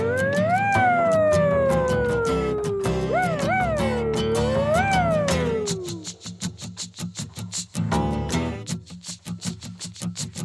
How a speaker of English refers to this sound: It's a fire truck.